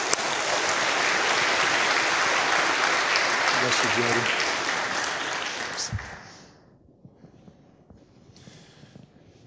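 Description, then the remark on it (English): A First Baptist audience bursts into loud, sustained applause welcoming the new camp director of Rock Ridge Baptist Assembly, a dense wash of many hands clapping for about six seconds before it quickly dies away and a man speaks briefly. “Let's give him a warm First Baptist welcome.”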